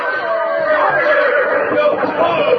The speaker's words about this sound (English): Why don't you look where you're going? Get those horses of yours untangled. Why, we could all have been killed.